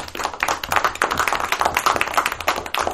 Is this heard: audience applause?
yes